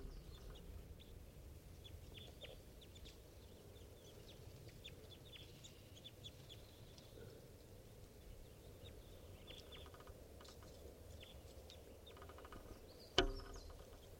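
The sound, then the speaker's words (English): Wild birds, including birds numbered 387 and 305, call loudly in short, scattered bursts from a flock perched in a tree above a net, over a steady low rumble and insect-like hiss, with clucking, fowl-like notes and a brief sharp sound near the end. No one speaks. “And the loud calls there is bird 387 and also 305 calling.”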